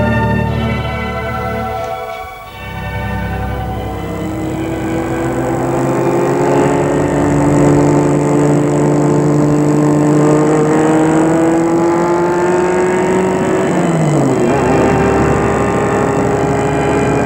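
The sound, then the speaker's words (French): A car engine drones steadily, its pitch climbing as the vehicle accelerates, then dropping briefly at a gear change before pulling away again, as people are driven by car to a headquarters. No voices. “Ensuite, ils sont amenés en voiture jusqu'au siège.”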